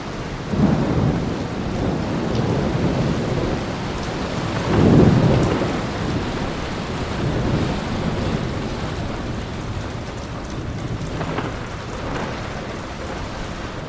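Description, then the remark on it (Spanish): Heavy, steady downpour of the biblical Flood hisses throughout after Noah's ark is closed, a dense wash of rain with a deep rumble of thunder swelling briefly near the middle. No voices are heard. “Pero cuando Noé y los suyos hubieron cerrado las puertas y escotillas del arca, empezó a llover torrencialmente y las aguas del diluvio cubrieron la tierra.”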